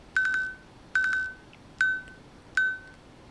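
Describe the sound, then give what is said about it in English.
A watch's tap-to-buzz time feature beeps out 12 o'clock: four bright, mid-pitched electronic beeps spaced under a second apart, the first two slightly longer, each with a sharp onset and a fading tail, no talking. “So that's why it did a single beep.”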